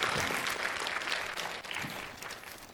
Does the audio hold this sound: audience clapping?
yes